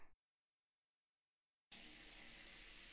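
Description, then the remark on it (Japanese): After a short bump and a stretch of silence, a shower suddenly starts running, its steady, loud hiss of spraying water continuing until the end. “おじさん、シャワー浴びてきなよ。”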